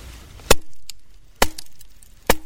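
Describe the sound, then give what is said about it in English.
Three sharp, loud thwacks of an axe splitting wood, evenly spaced about a second apart, each with a quick woody crack and brief ring. A Florida Wildlife Corridor Expedition member chops wood on a chilly, raw, damp morning at a remote campground in Pasco County, Florida, on the edge of the Green Swamp. No one speaks. “is busy chopping wood, trying to stay warm in the raw, damp cold.”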